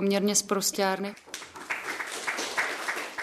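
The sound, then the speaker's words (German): A voice speaks briefly, then an audience breaks into steady applause after an hour-long debate, a dense wash of many hands clapping at moderate loudness that carries on to the end. “Applaus nach einer einstündigen Debatte.”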